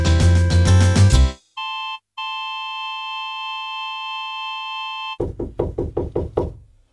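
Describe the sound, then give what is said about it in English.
A quick series of about eight sharp knocks on a door, loud, following a short musical bit and a steady electronic tone. No one speaks. “Listen, someone's knocking at the door.”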